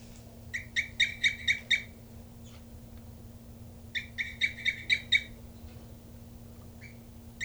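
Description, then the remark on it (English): A female nesting bird, bird 3-3, calls while cooping off her nest at about 3:30 p.m., in two bursts of five or six quick, high, bright chirps, separated by a few seconds of quiet, over a steady low hum. “And this is bird 3-3 here, cooping off the nest.”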